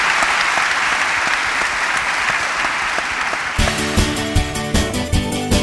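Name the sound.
welcoming applause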